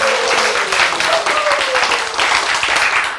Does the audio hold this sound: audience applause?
yes